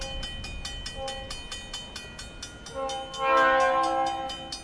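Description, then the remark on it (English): A train rolls past a railroad crossing in Philo, Illinois, with a steady, rhythmic clatter, then its horn blares loud in the last couple of seconds. No one speaks. “Say, just above the railroad crossing, about 200 feet up, on the eastern edge of the central business district of Philo, Illinois.”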